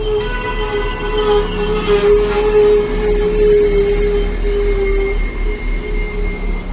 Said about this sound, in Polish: Planowany odjazd pociągu o godzinie bardzo bliskiej. Właściwie za chwilę, ale na pewno zdążycie.